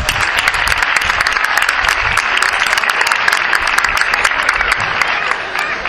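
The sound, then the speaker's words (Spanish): An audience applauds the mayor of Totana, Isabel María Sánchez Ruiz, steadily for about six seconds, a dense, even wash of many hands clapping at a loud, constant level with no voices standing out above it. “Un aplauso para ella.”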